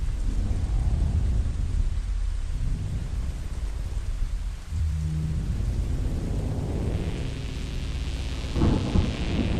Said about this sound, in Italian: E il giorno dopo la pioggia è arrivata veramente. E ha sciacquato il sangue dalle gradinate del tempio e le strade dal passaggio della folla.